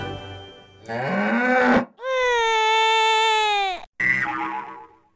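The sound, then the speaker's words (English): Three players' quiz buzzers are tested one after another on a game show, each a different novelty tone: a rising, wobbly honk, then a long steady buzzing note, then a shorter, brighter one. No one speaks. “So, first of all, can all players test their buzzers?”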